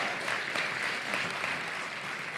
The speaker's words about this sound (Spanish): Y el ganador es Cuatro Picas. Un fuerte aplauso.